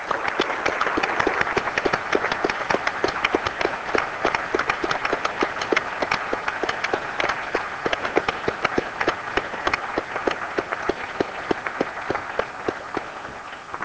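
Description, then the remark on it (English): Senators in a senate chamber applaud a senator's son for singing the national anthem a cappella, with dense, crackling claps of many hands filling the whole stretch at an even loudness and no voices heard. “I think he did a tremendous job, and quite frankly, I think all of us ought to give him a round of applause.”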